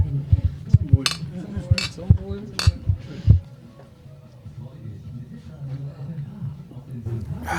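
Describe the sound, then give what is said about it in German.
Four glasses of Pils beer clink together in quick succession for a toast at a barrel-like table with candles in an inn, bright knocks over a few seconds, followed by a murmur of voices and background noise. “Aber erstmal Prost.”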